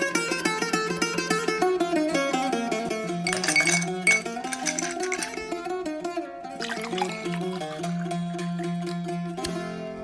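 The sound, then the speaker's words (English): Drinks are poured, the ringing pitch of the glasses rising as they fill, with a couple of bright glass clinks partway through. No one speaks. “Let's have a drink.”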